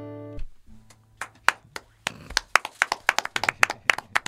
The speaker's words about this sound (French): Ça sent pas mal à l'applaudimètre.